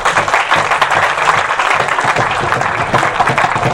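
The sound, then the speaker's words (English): Steady, loud applause from an audience, dense overlapping claps forming a continuous wash of sound for several seconds with no voices rising above it. “Clap again.”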